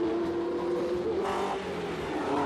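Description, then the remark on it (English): A racing car engine, number 37 driven by Enzio Bodoni in a corrugated racing machine at the World Champion Time Trials, revs loudly and steadily for a couple of seconds, a buzzing, harmonic drone that swells slightly midway, with no talking over it. “Pulling up. Number 37, Enzio Bodoni, driving his lean, mean, corrugated racing machine.”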